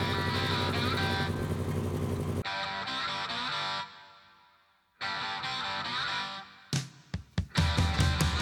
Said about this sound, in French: On va faire un tour en bagnole avec Christine. Au volant, c'est John Carpenter.